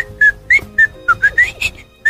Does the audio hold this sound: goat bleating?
no